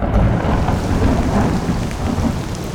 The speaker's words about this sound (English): Torrential rains in 1898 caused the Yellow River to overflow its banks.